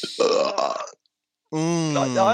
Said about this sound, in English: I can do it. It's a rare talent. Well, it's not rare, but yeah, I can belch at all times.